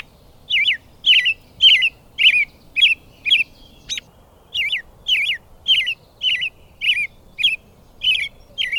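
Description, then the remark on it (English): A robin sings a steady series of bright, clear chirping phrases, evenly spaced at about one or two per second, fairly loud over a quiet background with no talking. “They may nest in the same shrub, if it's a favorable nesting spot, and to our eyes, it looks as if the same pair of robins has returned.”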